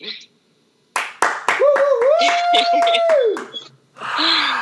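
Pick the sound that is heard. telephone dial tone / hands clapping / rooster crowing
hands clapping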